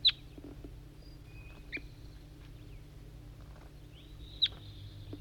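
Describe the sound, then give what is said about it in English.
A bird gives two sharp, high-pitched chirps, one at the start and one near the end, responding to a wild bird in the distance, with faint thin whistles in between over a steady low hum. “Responding, I think, to a wild bird in the distance.”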